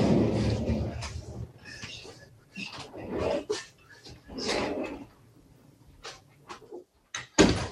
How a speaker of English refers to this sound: Now you're gonna have to close that door.